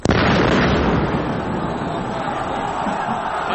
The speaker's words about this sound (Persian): صدایی که شنیدین مربوط به نماز جمعه 24 اسفند سال 63 بود که در اثر انفجار 14 نفر کشته شدن